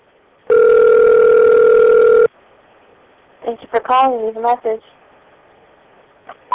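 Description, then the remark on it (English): A single loud, steady telephone ringing tone holds for nearly two seconds as a phone call rings through to an answering machine, then cuts off; after a pause, a brief burst of voice follows. “Answer machine.”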